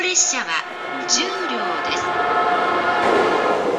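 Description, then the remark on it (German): Several bright electronic train departure melodies play over one another at a busy Japanese train station, their tunes overlapping and clashing in a reverberant space while crowd murmur and indistinct voices fill the background. “An besonders geschäftigen Bahnhöfen erklingen die Melodien mehrfach und gleichzeitig.”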